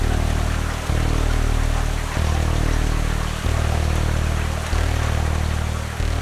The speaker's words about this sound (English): The frightening thing about Allison is that we all focus on what category is the storm, what's the storm surge, and we don't really, up until that point, we really hadn't thought about the rain, and the rain, and the rain, and the rain.